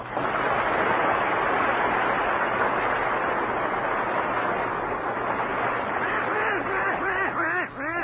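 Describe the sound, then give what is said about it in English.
A voice imitates the Walt Disney cartoon duck Donald Duck, delivering rapid, raspy, quacking gibberish speech nonstop for several seconds, loud, with squawky pitch swoops toward the end. “Donald Duck.”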